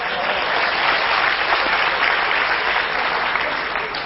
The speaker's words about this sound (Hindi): आप अपने लिए ताली तो बजाइए।